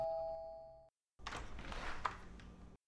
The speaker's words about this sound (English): She sat there on the couch, guiltily indulging in the steamy tales of a romance novel entitled Steamy Tales, a Romance Novel, when suddenly she heard the doorbell sound.